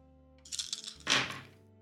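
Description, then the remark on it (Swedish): Dice clatter across a hard surface: a quick run of small rattling clicks, then a louder tumbling burst that settles after about half a second, with no voices. “Slår jag samma då?”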